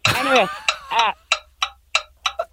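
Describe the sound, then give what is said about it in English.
A 30-second countdown clock ticks steadily, with about five crisp, evenly spaced ticks, following a short burst of wavering vocal sound at the start. “And your clock starts now.”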